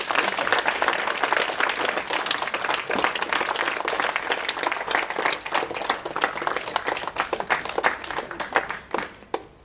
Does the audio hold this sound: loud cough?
no